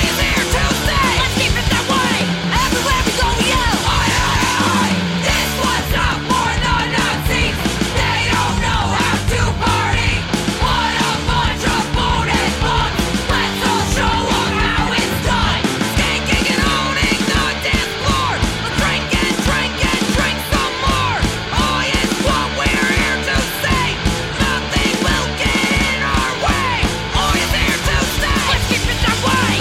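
A loud, driving oi punk song by a female-fronted band, with distorted guitars and pounding drums and shouted chant-style vocals riding on top, including chants of "Oi, Oi, Oi", playing continuously at full intensity throughout.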